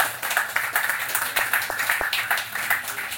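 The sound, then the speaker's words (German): A crowd applauds steadily, many hands clapping in a dense, continuous patter that holds at an even level for a few seconds with no voices above it. “Ich glaube, auch das ist mal einen Applaus wert.”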